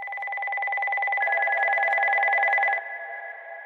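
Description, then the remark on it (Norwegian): A steady electronic alert tone from an ambulance worker's radio on night shift, signalling that someone needing help has called 113, sounds continuously for a few seconds, a bright two-pitched buzzing beep that stays loud, then drops in level and lingers briefly. No one speaks. “Ambulotta skal akkurat til å ta seg litt kveldsmat, da det kommer en pipelyd fra radioen hennes.”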